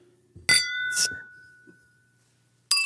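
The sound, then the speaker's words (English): Glasses clink together in a toast during a drink tasting, three bright taps, the first two about half a second apart, their ringing tone hanging in the air before a final clink. “Well, cheers, man. I got a glass this time.”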